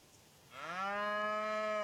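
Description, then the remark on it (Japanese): A single long, steady cow moo, from a cow given by the village chief as bait to lure a wyvern, rises in after a brief quiet start and holds loud, rich with layered harmonics, with no talking. “ワイバーンをおびき寄せるために牛をくれるなんて。”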